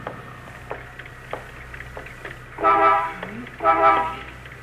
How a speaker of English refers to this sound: You honking for me, mister? You want me?